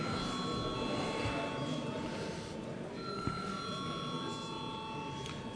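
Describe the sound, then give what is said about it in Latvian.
A parliament voting call bell rings steadily and continuously for several seconds before a vote, a sustained electric tone over a low murmur. “Lūdzu zvanu.”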